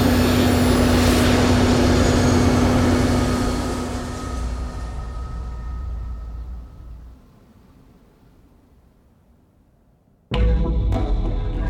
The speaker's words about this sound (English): Major Velyensky piloted the lead jet, the other 5 forming a V formation behind him.